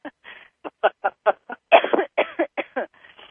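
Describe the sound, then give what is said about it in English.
A run of about a dozen short, sharp coughs in quick succession, fairly loud, with a few raspy bursts running together in the middle and softer ones trailing off at the end. “Yawning, coughing, eyes watering, the skin around my front of my face went kind of tight and prickly, like a rash almost.”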